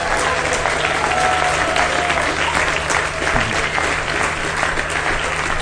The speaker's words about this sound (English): So please give Yurik a big round of applause.